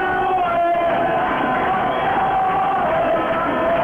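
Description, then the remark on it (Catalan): A dense football crowd at a Mollerussa match against Mirandés roars and chants "campions" (champions) together in a steady, sustained swell of massed voices, loud and continuous, with no single voice standing out, around the 90th minute as Mollerussa clinch promotion to Segunda. “Ara sí, els primers crits de campions, campions, quan estem sobre el minut 90 i 25 segons de partit.”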